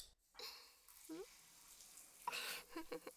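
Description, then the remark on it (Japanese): Shower water sprays in two fairly loud hissing bursts as someone is rinsed off, with a quiet pause between them and soft vocal sounds mixed in. “じゃあ、シャワーで洗い流そうか。”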